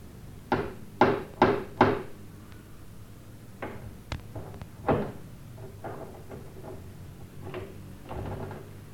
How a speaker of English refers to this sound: In the next part, John and Mary go to Miss Haverhill's, don't they?" "Yes, they do. They go to Miss Haverhill's house and knock on the door.